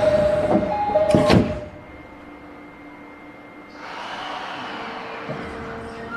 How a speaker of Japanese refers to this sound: 番線から電車が発車します。ドアが閉まります。ご注意ください。